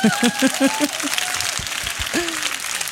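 A crowd applauds with dense, steady clapping that lasts the full three seconds, while a few voices call out and whoop over the noise.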